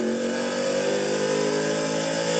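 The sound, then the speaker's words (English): A race car nicknamed Big Thumper roars loudly and steadily as it is driven through the gears, its deep, thumping drone rich in layered harmonics, the pitch climbing slightly as it pulls. No voices are heard. “So, love the sound of this car. I like to call it Big Thumper. You can definitely tell why, because the motor just thumps around here.”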